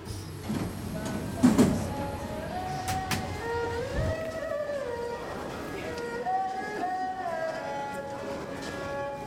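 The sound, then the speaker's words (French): Metro platform ambience: a steady rumble with rising and falling electric whines, like a train motor, plus a brief clunk near the start and faint murmuring voices in the background. “Debout sur le quai, en attendant le métro, j'assiste à une rencontre musicale contemporaine.”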